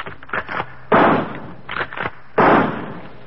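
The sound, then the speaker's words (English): Two loud rifle gunshots fired into the jungle at night, each a sharp crack followed by a short decaying rumble, spaced about a second and a half apart, with fainter thuds and pops in between and no voices. “It's not afraid of rifle fire.”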